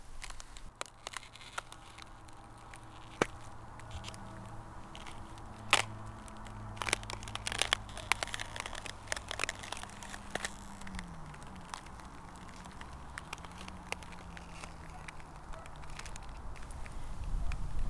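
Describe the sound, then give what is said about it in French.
Crunching footsteps of shoe soles on ice while snow falls, with sharp irregular crackles and snaps and low, drawn-out creaks that bend in pitch. The sounds are moderately loud throughout, with no talking. “La glace grince doucement sous mes semelles, comme pour dénoncer ma présence.”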